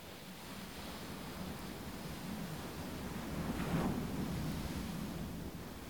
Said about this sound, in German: Du lauschst dem monotonen Rauschen der Wellen.